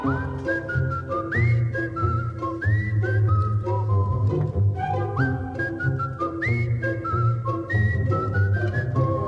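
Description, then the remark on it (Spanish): A farmer whistles a meandering, casual tune with sliding notes while milking a cow on a farm, clear over a steady background of accompanying music, with no talking. “El granjero, silbando distraídamente, ordeñaba a la vaca resaca.”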